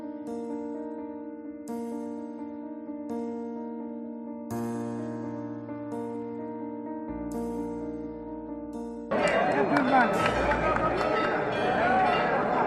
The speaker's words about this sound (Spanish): Bueno, pues estás escuchando cómo suenan las campanas, cómo sonaban las campanas esta semana.